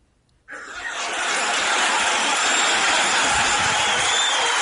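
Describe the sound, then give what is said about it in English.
A cheering-crowd sound effect erupts abruptly after a brief silence, a loud, sustained wash of many voices that swells and holds steady to the end. “you brought your own sound effects of a cheer.”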